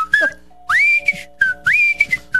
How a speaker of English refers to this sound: Just whistle off. Man. This is exciting. Whistle along at home.